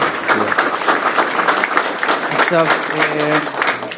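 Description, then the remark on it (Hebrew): An audience claps steadily in a dense, sustained burst of applause lasting the whole moment, with a voice briefly rising above the clapping partway through. “עכשיו, אפשר למחוא כפיים?”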